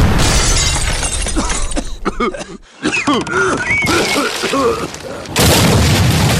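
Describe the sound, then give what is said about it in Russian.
A loud shot fired from a legendary cannon opens with a harsh, rumbling roar that lasts a couple of seconds. After a brief silence, strained groaning voices follow, then another loud noisy burst closes it. “произведенный из легендарного орудия. Заряжай!”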